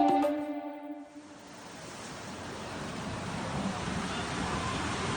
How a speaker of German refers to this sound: Zu sehen auf dieser Aufnahme ist ein reißender Fluss, der sich zwischen den Häusern gebildet hat